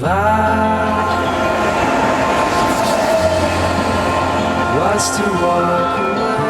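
An RER commuter train rolls steadily along the rails, with a loud, continuous rumble and droning hum, and a brief rising whine of wheels or motor near the end.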